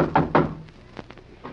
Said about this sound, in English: Knock again, Dagwood.